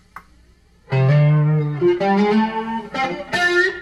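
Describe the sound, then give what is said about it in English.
A clean electric guitar with no distortion plays a few ringing notes and chords through the first of two flanger pedals, its tone swirling with a sweeping, whooshing shimmer with strong sweep and regeneration. Fairly loud, with no talking. “So the first flanger, hit the first one.”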